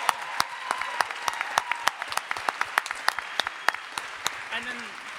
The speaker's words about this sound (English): Well done. Stand up. We will clap for you. You are the future of America.